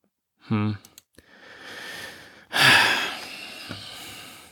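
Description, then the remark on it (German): A brief voiced grunt and a few clicks, then a man's heavy breathing out of disappointment: a long airy exhale followed by a louder, rougher one that trails off. “Ja, ich atme schwer.”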